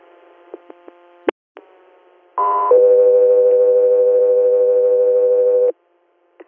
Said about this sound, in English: Guthrie Air, standby for tones.